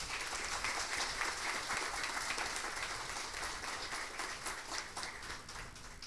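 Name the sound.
audience round of applause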